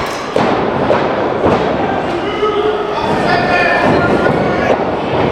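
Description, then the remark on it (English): A heavy body thud as a wrestler spears his opponent in the gut and hits the mat, followed by a few more dull impacts over a loud, continuous roar of crowd noise. “Nice spear to the gut.”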